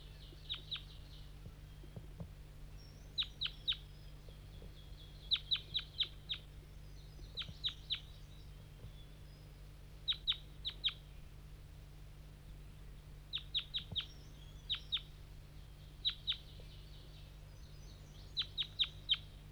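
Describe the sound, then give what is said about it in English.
Wild birds calling in fog, lured in by bird 5-3 and flying up from the bottom of a hollow: bright, high chirps come in quick clusters of two to four notes, repeating every couple of seconds over a steady low hum, with no talking. “So recording, 5-3's lured in some wild birds, flying from the bottom of the hollow, through the fog.”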